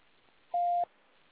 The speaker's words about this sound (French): Merci de laisser un message après le signal sonore. Je vous rappellerai dès que possible.